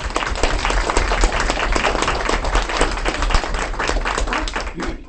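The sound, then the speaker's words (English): A crowd claps steadily in dense, sustained applause for about five seconds as the Board of Supervisors presents certifications to recipients, many hands overlapping into a continuous crackling wash that stays loud throughout and thins slightly at the end. “So would y'all please join me with a round of applause.”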